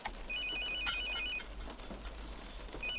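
A police inspector's mobile phone ringtone trills in quick, repeating electronic bursts, clear, pausing briefly before starting again over a low background hum.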